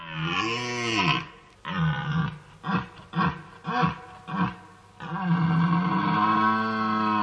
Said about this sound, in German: Das kennen wir alle, das ist der röhrende Rothirsch. Der stärkste Hirsch hat am meisten Chancen bei den Damen, so ist das ganz einfach.